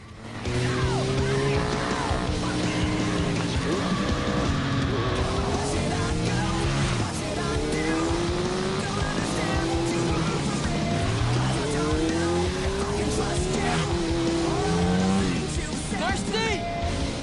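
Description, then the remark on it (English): A motorbike ridden by a woman roars and climbs through repeated revving surges as it accelerates up a street, tires squealing through sharp swerves between pedestrians and fireworks, loud over a busy, noisy street background. “She rides off and accelerates up the street, swerving between pedestrians and fireworks.”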